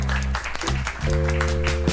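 An audience at a live show claps hands together in a steady, dense burst of applause lasting a couple of seconds, as the lovers in the crowd are asked to clap, with sustained low musical tones humming underneath.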